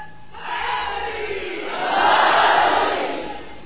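A large crowd loudly chants the salawat blessing on Muhammad and the family of Muhammad in unison, a dense roar of many voices that swells louder midway before easing slightly at the end.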